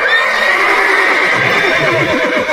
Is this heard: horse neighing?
yes